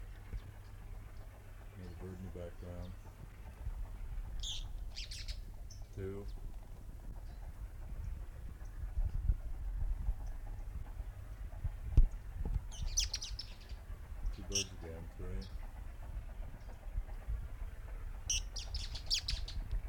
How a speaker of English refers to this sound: Several birds there. Three birds singing at one time.